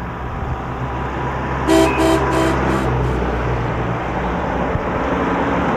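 A car horn honks in a quick series of about five short toots over a steady low rumble of road traffic, then only the traffic noise carries on.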